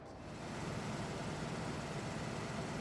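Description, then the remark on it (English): A recording of a car engine with a repaired muffler running steadily at idle, a smooth, even low rumble with a soft hiss on top, holding at a constant level for the whole stretch with no voices. “Finally, let's hear the repaired muffler.”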